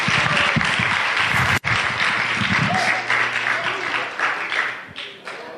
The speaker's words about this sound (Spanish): Débele un aplauso al Rey de Reyes y Señor de Señores. Aleluya.